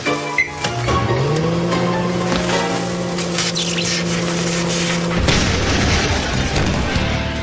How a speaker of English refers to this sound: Explosions are seriously loud. Wow. That was a thud. That was something else.